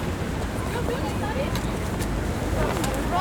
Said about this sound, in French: C'est la colline qui domine Montréal. Alors, il y a un petit coup de vent, de mauvais temps.